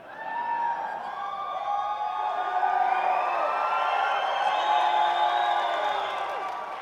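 A crowd of voices yells and whoops together, a dense, sustained mix of overlapping shouts at mid to high pitch that holds steady for several seconds before easing slightly at the end.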